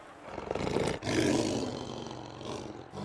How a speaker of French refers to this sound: Dans leur course effrénée, ils croisèrent le lion, roi des animaux. Avec sa voix de tonnerre, celui-ci réussit enfin à les arrêter.